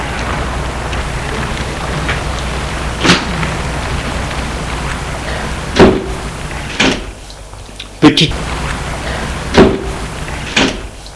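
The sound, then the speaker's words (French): A door with no automatic closer opens into the hallway of an old, modest apartment building and swings with several sharp knocks and clunks over a steady background hiss of street ambience, followed by lighter thuds as it settles. “vite, traverse le trottoir de la porte n'a pas de fermeture automatique, c'est rare, et il entre dans l'allée.”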